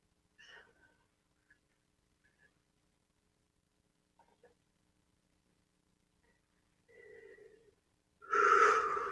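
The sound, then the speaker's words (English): Soft, sparse breath sounds in near silence, then a long audible breath and a loud, rushing inhale or exhale at the end. No talking. “Deep breaths.”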